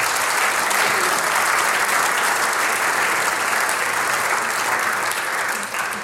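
A crowd claps steadily for several seconds, a dense, even wash of many hands at a constant loud level that eases off only slightly at the very end. No one speaks over it.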